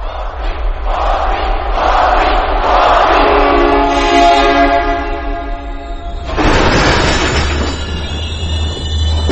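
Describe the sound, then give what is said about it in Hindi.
As a train coach door opens at a railway platform, a dense wash of crowd voices rises and swells, mixed with a sustained horn-like tone and a low rumble, then shifts abruptly to a brighter, harsher burst of noise near the end. “अचानक एक कोच का दरवाजा खुला, बैकग्राउंड से आवाजें।”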